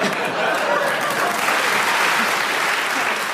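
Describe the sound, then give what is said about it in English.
A steady round of applause from a show audience after a short talk about the Egyptian pharaohs, dense and even clapping that holds at full strength for a few seconds without any voices standing out. “Do you know, that round of applause indicates to me that you should deserve a bonus point for what you did.”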